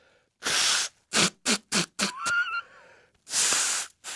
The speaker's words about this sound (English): You know, you always ask me why I blow my nose on the air.